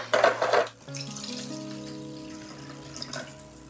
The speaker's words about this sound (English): So, first off, I'm going to add some water to my diffuser.